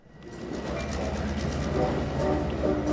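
A Long Island commuter train, on the 20-minute ride from Manhattan, rolls along the rails with a steady, building rumble and faint rhythmic clatter, with no voices.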